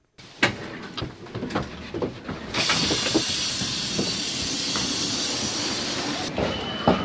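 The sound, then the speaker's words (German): Busy ambience at Basel railway station: scattered clatters and footsteps of people arriving and departing, hurriedly pulling suitcases, give way to a loud, steady hiss of a train, like released air or steam, lasting several seconds before fading back to station bustle. “Basel Bahnhof. Menschen kommen an oder reisen ab, rollen eilig Koffer hinter sich her oder verweilen kurz für einen schnellen Kaffee.”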